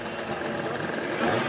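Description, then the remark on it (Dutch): A small Vespa scooter engine idles steadily, a continuous buzzing putter with a slight rhythmic flutter, holding an even volume throughout with no voices. “Maria Houtman vertelt later dat haar man een Vespa-scooter ging rijden.”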